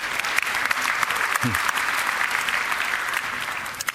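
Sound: audience applauding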